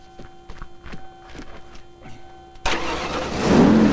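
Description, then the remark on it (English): A Cherokee SUV's engine, after loose wires under it were reattached, cranks with a rapid, rhythmic chug of the starter for a few seconds as the ignition is turned, then catches and roars to life, the running engine growing louder and steady. “Getting back on his feet, he moves to the driver's side and turns the ignition.”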